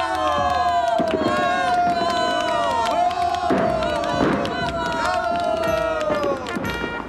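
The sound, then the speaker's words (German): A crowd of spectators cheers enthusiastically, a dense, sustained roar of many excited voices shouting and whooping together, loud throughout with occasional sharper bursts rising above the din. “Die Zuschauer jubelten vor Begeisterung”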